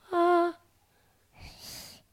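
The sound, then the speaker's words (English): A toddler breathes heavily right into a microphone, a short, squeaky voiced wheeze followed by a loud, rushing breath, with no talking. “The heavy breathing.”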